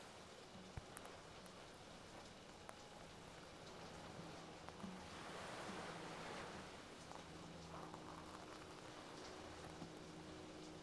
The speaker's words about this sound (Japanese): 穏やかだった雨はいつの間にか海の波を叩き上げるほど風に吹きつけられて勢いを増しています。